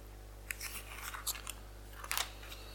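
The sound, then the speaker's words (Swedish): Pages of a Bible being flipped to Luke chapter 13, a series of quick, crisp papery rustles and swishes over a low steady hum with no talking. “Så om vi bläddrar dit ska vi titta på ett exempel.”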